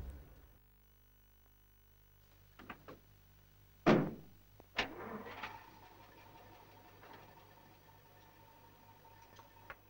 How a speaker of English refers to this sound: It's the piano tuner who opens the garage, gets into the car, and reverses out.